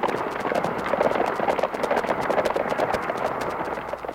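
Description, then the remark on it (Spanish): Many horse hooves clip-clop in a steady, rapid rhythm, as if a group of riders is trotting, with a dense, noisy wash behind the hoofbeats and no voices. “Mientras unos soldados que van delante, desde sus monturas, cortan a machetazos los alambres”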